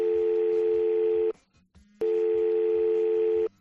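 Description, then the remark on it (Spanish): Two long, steady telephone ringing tones, each about a second and a half, separated by a short pause, with a faint clicking rhythm underneath, as a man's phone number is called. “Es más, conseguimos su número de teléfono y hacemos exactamente lo que te estás imaginando.”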